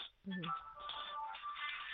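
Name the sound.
telephone ringing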